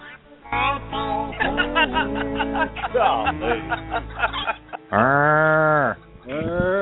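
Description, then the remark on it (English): A cow moos loudly, a run of drawn-out lowing calls followed by one long, steady moo near the end and a shorter call after it. “Like, what's a cow doing out there?”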